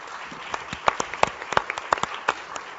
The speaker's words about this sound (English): Thank you for the questions, everyone. If we could have one more round of applause for our wonderful panel here this evening.